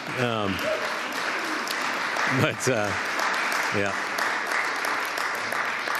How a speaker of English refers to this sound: It's good that dad gets the longest applause from that.